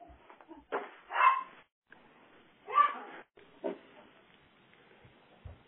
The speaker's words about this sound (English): Sorry about that. One of my wife or my daughter just came in the door and the dog decided to go nuts.